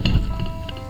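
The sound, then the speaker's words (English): Cocktail glasses clink together in a toast, a few bright, sharp taps over a low background rumble. “Give you a little cheers there, mate. Cheers.”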